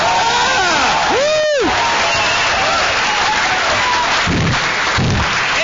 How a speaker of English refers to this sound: Oh, thank you. Here's another big round of applause. Thank you very much.